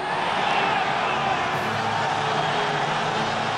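A dense, steady roar of crowd clamor at a match, following a long whistle: many voices shouting and chattering together at an even, loud level throughout, with no single voice standing out.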